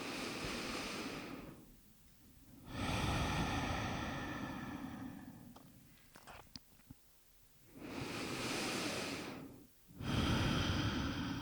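Slow, deep breaths at the microphone during a guided breathing exercise: long broad airy inhales and exhales swelling and fading, with a quiet pause and a few small clicks in between, no talking.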